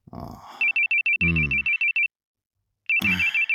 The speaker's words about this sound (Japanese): 大輔さん、また携帯鳴ってるわよ。 知らない番号なんだよ。 でも昨日もかかってきたんでしょ。一度出てみたら。